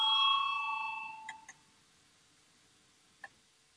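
An electric parliamentary voting bell rings with a steady, bright tone that fades away after about a second, followed by a few sharp isolated clicks, calling a vote on a minister's amendment proposal.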